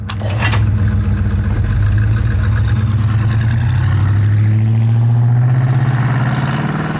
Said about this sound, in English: Some muscle cars, like the 1970 GTO, had an option where you could pull a little lever and make a louder noise.